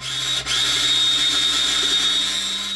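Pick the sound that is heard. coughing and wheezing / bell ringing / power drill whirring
power drill whirring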